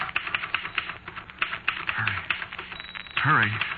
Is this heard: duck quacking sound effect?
no